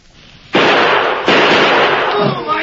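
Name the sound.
gunshots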